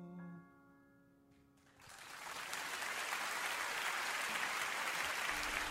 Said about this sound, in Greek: Ακόμα ένα χειροκρότημα εδώ.